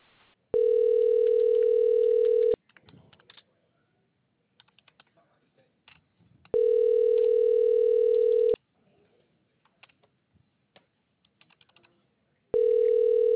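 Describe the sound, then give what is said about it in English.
A phone line rings back in long, steady tones, three bursts about two seconds each with pauses between, while faint soft clicks like keypad presses sound in the gaps, after a spam-call filter prompts the caller to press 8-5. “This phone number is protected by spam call filtering. Please press 8-5 to continue.”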